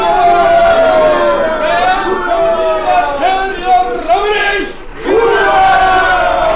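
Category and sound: crowd, crowd cheering and shouting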